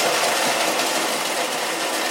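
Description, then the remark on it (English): A blender runs steadily for about two seconds, a loud, dense motor whir with a broad, noisy roar and a slight rhythmic churning as hurricane drinks for Mardi Gras are mixed. “making hurricanes in our blender”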